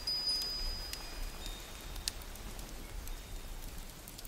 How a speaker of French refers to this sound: Au dehors, une pluie tiède se déverse sur la nature et vous prenez un moment pour recevoir ces gouttes délicates sur votre visage. Écoutez la pluie, elle est douce, régulière, envoûtante.